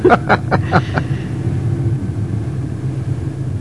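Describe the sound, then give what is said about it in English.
A car driven by a learner driver heading to the river, with a steady, low engine rumble, opening with a few quick clattering bursts before settling into an even hum. “Shall we drive to the river?”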